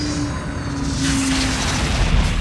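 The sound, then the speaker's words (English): The engines of a Thunderhawk aircraft wind down after landing, a low, steady hum and broad rumbling roar that hangs on briefly before settling, with no voices present. “The engines wheezed for a moment longer, and then were still.”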